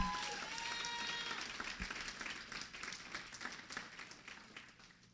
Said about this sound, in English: And so I'm so thankful to God right now. Can we just give Jesus a hand clap of praise?